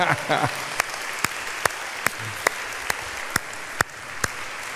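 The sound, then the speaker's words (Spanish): An audience applauds the Lord in a steady, crowd-wide wash of clapping, with sharp louder claps landing at a regular rhythm. A brief voice is heard at the very start. “Un aplauso pues al Señor, porque nos vamos con Él.”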